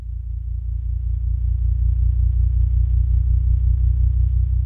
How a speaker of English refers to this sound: We're hearing gravitational waves, the ripples in space-time made by the tremendous mass of colliding black holes. We can hear them because their wavelengths have been shifted all the way into the human range of hearing by MIT professor Scott Hughes.